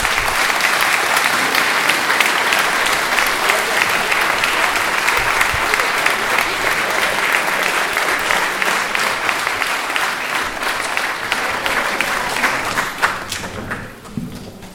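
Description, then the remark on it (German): Sustained audience applause fills the space, a dense wash of many hands clapping at steady loudness for about thirteen seconds before tapering off quickly at the end. “Danke euch und ich glaube, jetzt kriegt ihr auch einen echten Applaus.”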